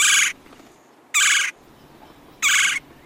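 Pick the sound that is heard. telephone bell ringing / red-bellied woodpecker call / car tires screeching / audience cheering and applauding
red-bellied woodpecker call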